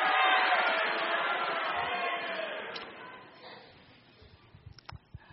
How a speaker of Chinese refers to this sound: 有的人可能还不习惯欢呼，但是你实在要学习开始欢呼，特别是弟兄。